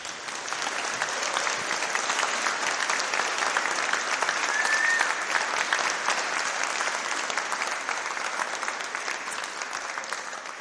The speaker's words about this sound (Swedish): Och jag tycker att vi kan ge vår Gud, men även tjejerna här, en applåd för detta.